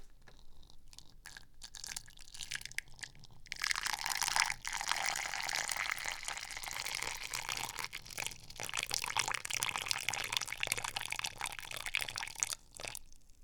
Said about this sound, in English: So I'm going to take this bottle, put it on the countertop there, put the funnel in it, grab the sauce, and start slowly and carefully pouring the sauce into the funnel. It goes into the bottle. So far, so good. I'm pouring.